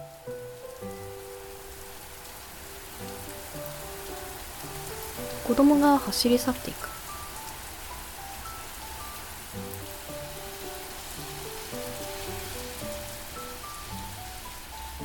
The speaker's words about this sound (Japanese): あ、雨だ。